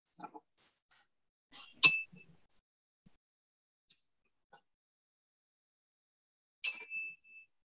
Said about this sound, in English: I'm going to ring a chime. I'm not sure if you're going to be able to hear it very well, but if you can't, imagine there's a chime that just rang, and we will have like about a minute.